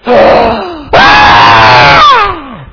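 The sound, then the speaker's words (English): A loud, strained shout imitating a newborn baby shouting rather than crying, in two long bursts with a brief break between, the second rising and then trailing off downward. “He's not crying, he's shouting!”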